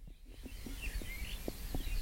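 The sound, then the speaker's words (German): Faint, scattered bird chirps at about 4 a.m. on the walk home from a school-leavers' party, a few short high calls over a steady low outdoor rumble with occasional soft thumps, and no one talking. “Vögel.”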